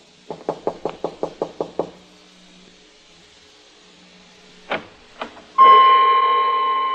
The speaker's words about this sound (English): Ali Faid hadn't answered my knock, and now I knew why.